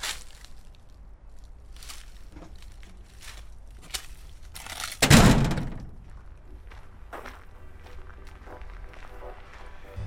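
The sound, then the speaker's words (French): An iron gate swings shut onto a garden with a single heavy clang and thud around the middle, its resonance ringing out briefly, amid quiet outdoor ambience with faint scuffing and small noises before and after. “Digicode. Portail de fer qui se ferme sur un jardin.”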